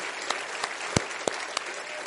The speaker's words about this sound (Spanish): A ver, los casados. Tengan la gentileza de los casados levantar la manito así. Mire esta belleza, esto es una belleza. Vamos a darle un aplauso a los casados.